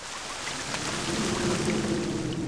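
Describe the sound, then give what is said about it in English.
Heavy rain roars in a dense, unbroken hiss, loud, as it blasts through a broken window, with a low rumbling undertone running beneath it for the whole stretch; no voices. “Abby quickly stood up and went to the window as the rain blasted through the broken glass.”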